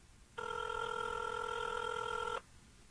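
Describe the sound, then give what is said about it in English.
A single steady ringback tone from an outgoing phone call, placed live to a man whose phone may be on a plane, sounds for about two seconds, a clear electronic buzz-like tone heard alone with faint background hiss before and after. “His phone might be ringing on the plane. Can you guys hear that?”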